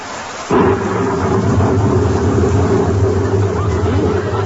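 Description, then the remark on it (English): After a brief quiet moment, a steady downpour of rain bursts in and holds constant, heard from out on the sidewalk, a dense hiss layered over a deep, droning low rumble, with no voices. “Raining. Yes.”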